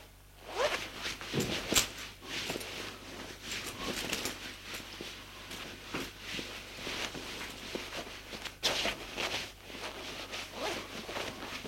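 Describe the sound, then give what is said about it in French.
Clothing rustles and shifts as a man undresses in his bedroom, with a couple of sharp zipper pulls cutting through the soft fabric sounds against a low background hum. “Une fois dans sa chambre, il se déshabille.”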